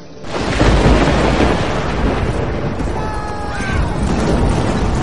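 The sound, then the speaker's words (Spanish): A deep, sustained rumble of thunder rolls on after a sudden onset, broad and heavy like a storm at a distance, with a faint tonal whine drifting through partway; distant thunder and lightning from black storm clouds over a vast plain. “En medio de una inmensa llanura, asediada por nubes negras que amenazaban tormenta. Rayos y truenos a lo lejos.”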